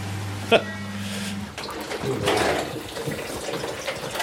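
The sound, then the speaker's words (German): After a short mechanical clunk, water gushes and splashes steadily from heating pipes in a basement as a 20-year-old gas boiler system is being dismantled; a low hum fades out early and brief voices can be heard underneath. “Da kommt Wasser.”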